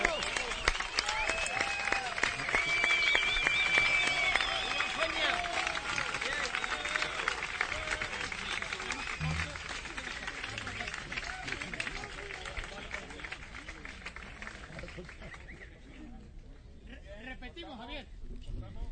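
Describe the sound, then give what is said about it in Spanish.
A concert audience at a concert dedicated to Triana claps steadily for about fifteen seconds, a dense roar of hands with a few whistles and shouts mixed in, before the applause thins and fades out. “Ahora es, después de escuchar el aplauso”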